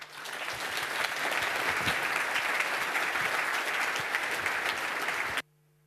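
An audience bursts into steady, loud applause to welcome speakers giving a talk on Red Star OS: a dense wash of many hands clapping that swells in the first second, holds for about five seconds, then cuts off abruptly.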